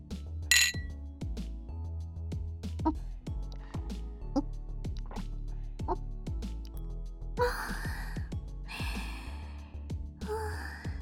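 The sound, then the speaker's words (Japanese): Glasses of alcoholic drinks clink together once in a bright, quick toast near the start, followed by soft breathy sighs and low background murmuring. “じゃあ今日も素敵な夜にしましょうね、お兄さん。乾杯。”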